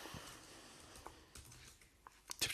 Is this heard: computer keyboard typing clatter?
yes